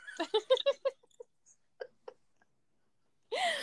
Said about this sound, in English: Oh, my goodness. I unfortunately have hiccups, and they're not going to go away anytime. I'm going to have to deal with them.